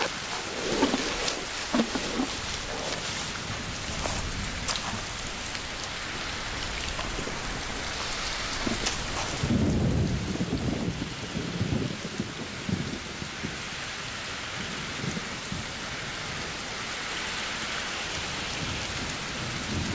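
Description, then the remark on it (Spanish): Steady, dense rainfall pours down continuously, with a low rumble of thunder rolling in partway through. No voices are heard, just the constant hiss and patter of heavy rain. “Todo el mundo disfruta de la lluvia.”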